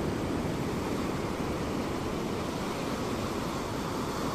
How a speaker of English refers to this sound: I hope these ocean waves are helping you in this moment.